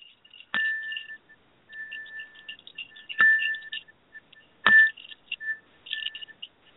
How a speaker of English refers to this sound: Little bell.